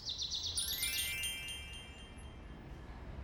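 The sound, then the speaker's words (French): A bird chirps in a quick, bright trill of high repeated notes for about a second, then trails off, leaving a soft low background rumble. “Oh, look! What a beautiful bird!”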